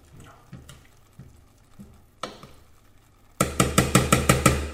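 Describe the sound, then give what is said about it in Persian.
A spoon scrapes around the inside of a pot, gathering rice from the edges into a dome in the middle: a few soft, scattered scrapes, then a quick run of about seven louder, rhythmic strokes. No voices. “حالا دو با قاشق دور تا دور قابلمه رو جمع میکنم وسطش، مثل تقریبا یک کوپ مانند.”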